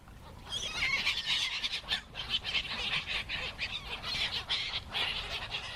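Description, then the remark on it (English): A crowd of seagulls squawks and squabbles in a dense, overlapping chorus of harsh cries that keeps going without a break, moderately loud, with no voices. “But sometimes it's like watching seagulls squabble over breadcrumbs at the beach.”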